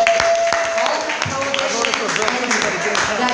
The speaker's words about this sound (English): Can we just clap it up for being legal right now?